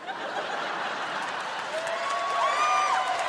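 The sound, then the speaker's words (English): A large crowd in Portland applauds steadily, a dense wash of clapping that holds level throughout, with a sustained high whistle cutting through near the end and some scattered laughter. “All of Portland came out to applaud.”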